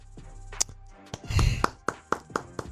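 human body sound, hands clapping

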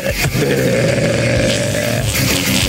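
human body sound, burp

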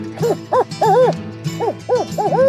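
bird, american woodcock call

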